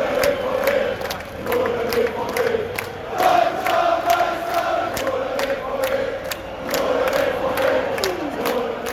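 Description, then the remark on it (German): A loud, dense crowd of BVB football fans in Dortmund on 27 May, before the match, shouts and chants continuously, with sustained sung tones rising out of the roar and sharp claps or drumbeats striking at irregular intervals. “Alle sind bereit, ihren BVB zum Titel zu schreien.”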